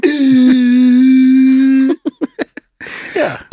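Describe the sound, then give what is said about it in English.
A voice imitates the kind of fart made while pooping: a long, steady, buzzy low drone lasting almost two seconds, then four or five quick sputtering pops, trailing into a breathy rush of air. “Yeah, you know, my favorite fart when you're pooping is one that goes.”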